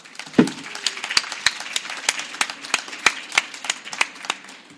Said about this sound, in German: Heute ist er hier auf der Leipziger Buchmesse. Bitte einen ganz kräftigen Applaus.